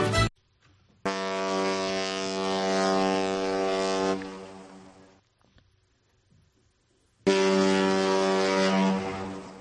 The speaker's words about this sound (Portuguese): Así sonaban los barcos de vapor que partían desde los puertos gallegos en dirección hacia las Américas.